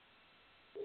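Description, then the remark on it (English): A faint line hiss gives way to a sudden, louder steady telephone tone near the end, brief, like a phone line connecting as a caller comes on the line. No one speaks. “I've got a phone call here at 706.”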